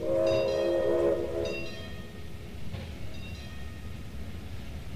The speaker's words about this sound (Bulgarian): Влакът пристига след една минута. Умоляват се посрещачите да не пресичат линията. Това къщичката на влака ли е? Нещо подобно. Леле! О, леле! Какво е това животно? Помощ! Какво животно? Това е влак. Не си ли виждал друг път?